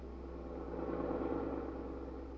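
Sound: car engine running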